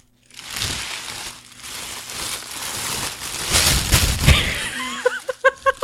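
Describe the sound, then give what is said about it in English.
Steady rustling and crinkling of black tissue paper being pulled apart while unwrapping a package holding Star Trek crew socks, for several seconds, building louder near the end before a few short voiced sounds break in. “black tissue paper. Doesn't even have a Starfield on it.”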